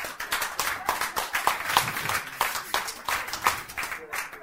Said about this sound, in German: Gebt ihm einen Applaus.